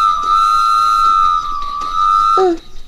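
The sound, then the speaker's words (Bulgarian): A locomotive whistle blows one long, loud, steady note for over two seconds, then drops abruptly to a lower pitch and cuts off. “Защо свири локомотива?”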